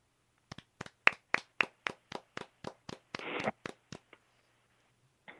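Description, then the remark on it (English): A short round of applause after a poem is read: about a dozen crisp, evenly spaced claps with a brief denser flurry in the middle, then slowing and fading out. No voices are heard. “I didn't want to applaud because it's like, it's a good poem, but at the same time, it's not a happy like yay.”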